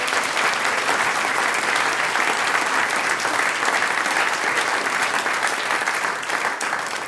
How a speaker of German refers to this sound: Das ist euer Applaus, Dankeschön, dass wir wieder da sein dürfen.